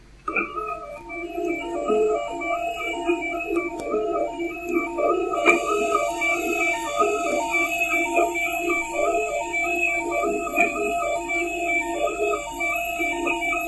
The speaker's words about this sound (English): It's the sound of it's a 3D printer head moving.